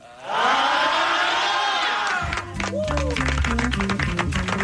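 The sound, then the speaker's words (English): A loud concert crowd roars and cheers for about two seconds, many voices blending into one wash. Then it gives way to music with a steady bass line and percussive hits, the cheering fading underneath. “I think we can all agree this concert blows, right? You guys really want to see a crowd”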